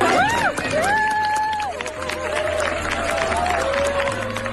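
Inditex office workers at the company's headquarters in Arteixo, Spain, applaud a visiting guest with dense, steady clapping, while excited cheers and high, drawn-out shouts ring out over the top throughout.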